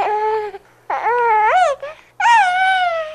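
A baby wails in three loud bursts, each high, strained cry rising and falling in pitch, with brief gasping pauses between them.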